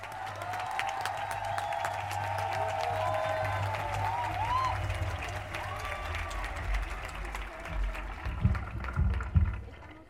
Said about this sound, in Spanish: Recibamos con un fuerte aplauso, compañeras.